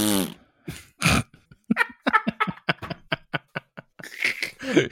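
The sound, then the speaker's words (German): A voice imitates a fart with the mouth, standing for the character Malfoy farting: a low buzzy sputter, then a rapid string of short popping bursts, ending in a breathy, noisy blast. Fairly loud. “Gut, dass wir jetzt schon mehrere Minuten darüber lachen, dass Malfoy furzt.”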